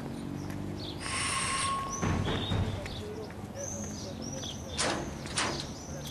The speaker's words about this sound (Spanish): ¿Qué te pasa? ¡Vas a romper la puerta!